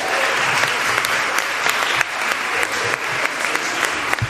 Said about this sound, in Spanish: Y es Pilar Marcos, un aplauso.